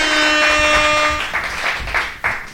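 A steady, buzzing harmonic tone cuts off partway through, leaving a few sharp hand claps at an uneven pace from a guitarist at a live show who is clapping instead of playing outro music, with no talking.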